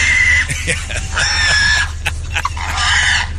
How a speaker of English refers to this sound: Now listen to the audio. No, that pig's got to be losing it.